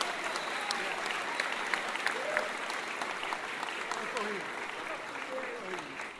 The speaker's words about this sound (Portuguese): Pessoal da Maria Curso está aqui hoje, queria pedir uma salva de palmas pro pessoal da Maria Curso.